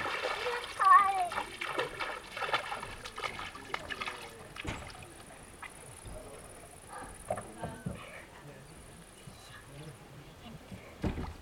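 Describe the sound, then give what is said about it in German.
Very cold water sloshes and splashes in a basin as a foot is put in, with irregular slaps and trickles throughout and a brief murmur of voices near the start. “Ich mache jetzt ganz kaltes Wasser, dann haben wir einen Jungbrunnen.”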